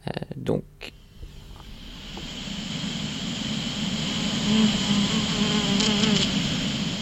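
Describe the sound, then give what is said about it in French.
A bee buzzes steadily as it flies through a sunflower field, a low droning hum that swells slightly as it passes, after a couple of brief thumps at the start. “Oui, donc là, je vais passer un son d'une abeille qui est passée dans une parcelle de tournesol.”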